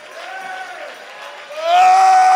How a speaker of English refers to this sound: Can I tell you, the devil don't want no shouting going on here. He don't want anybody praising God, exalting the name of the Lord.